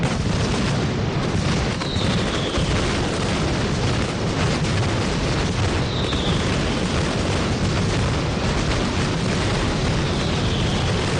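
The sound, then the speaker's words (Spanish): A dense, continuous mascletà firecracker barrage, the final shot of the 2024 mascletà contest at the Plaza de los Luceros, fired by Hermanos Fernández, roars without pause, a relentless wall of rapid bangs and booms, loud, with faint whistling streaks rising above the din. “Este es el sonido del último disparo a cargo de Hermanos Fernández.”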